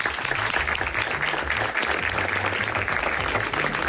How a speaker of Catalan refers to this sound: Molt bé, un aplaudiment per tots.